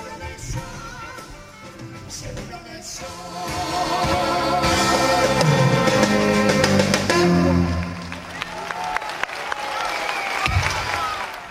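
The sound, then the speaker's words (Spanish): An audience applauds with dense, crackling clapping that swells to a fuller peak midway before thinning out, with voices and some cheering mixed underneath. “No sé si esos aplausos eran para ti o era para Elena y Bianco y los mismos, porque vamos a ver, estás viendo el tiempo todos los días, mañana, noche, tarde.”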